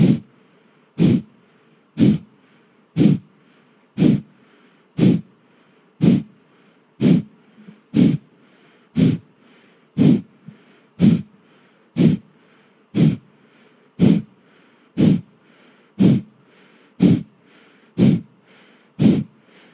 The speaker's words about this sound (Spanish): Todo va a ser por nariz, ¿ok? Inhalo corto. Y empiezo a exhalar, solamente exhalar corto y rápido y fuerte.